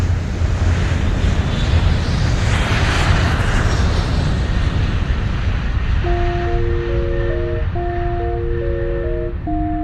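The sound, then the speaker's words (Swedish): A loud, steady jet-engine roar of airplanes taking off one after another fills the whole stretch, swelling briefly early on, with a simple tonal melody entering over it near the end. No one speaks. “En rysning går genom kroppen när du ser en efter en av flygplanen lätta från marken.”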